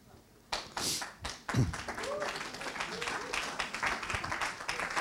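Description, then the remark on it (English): Polite, half-hearted applause from a crowd as a speaker is called up on stage: a thin patter of scattered claps that starts abruptly and continues unevenly for several seconds, with faint voices murmuring underneath. “That was a little bit of a country club clap.”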